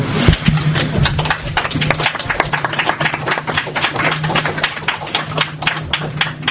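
A crowd applauds with dense, steady clapping that fills the whole stretch, many hands overlapping into a bright, continuous patter with a faint low hum beneath.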